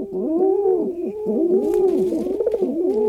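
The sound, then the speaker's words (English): Pigeons coo steadily, soft throaty warbling calls rising and falling in overlapping rolls with no pause, several birds seemingly calling at once. “Next time you notice pigeons strutting their stuff, take a moment to appreciate the way they see the world.”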